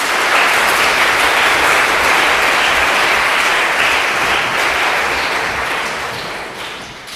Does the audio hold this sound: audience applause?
yes